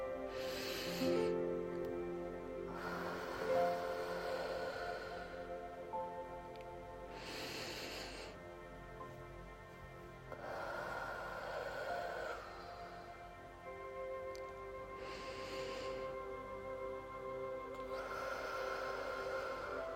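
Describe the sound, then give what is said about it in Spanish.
Slow, deep breathing during a guided breathing exercise, with long airy inhales and exhales alternating in a steady, unhurried rhythm over a soft sustained tonal background, clear with no talking. “concéntrate en la sensación de calma y paz que se infunde en cada exhalación. Respiremos juntas.”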